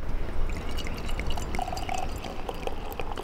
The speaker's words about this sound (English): pours two glasses of the cloudy golden saison.